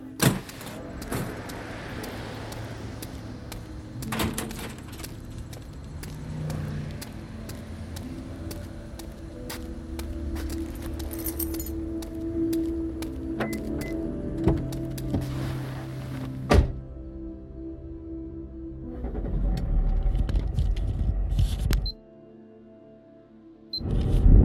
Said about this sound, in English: Traffic really thins out after midnight. It's about 1:30 a.m. Sorry for cutting out. I've been driving for a while, longer than I needed to, really.